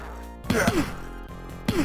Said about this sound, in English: Is it a punching game where they punch? He does do some punching. He primarily does punching.